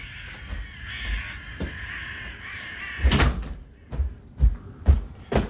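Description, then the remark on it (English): Crows caw outdoors over steady background noise, then a door shuts with a loud thud that cuts the outside sound off, followed by a few softer knocks and bumps in the quiet afterward. “my stupid door is open again.”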